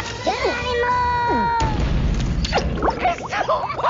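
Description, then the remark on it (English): A cat meows a few times in drawn-out, wavering cries, then a sudden loud crash and booming rumble cut in, followed by busy, clattering commotion with squeaky voice-like chirps. “Is there a cat in here?”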